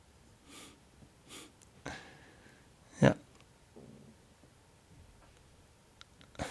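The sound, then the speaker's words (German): A man in a film scene breathes heavily, with several drawn breaths at irregular intervals and one sharp, louder snort-like exhale midway, otherwise quiet. “Jetzt hören wir ihn atmen.”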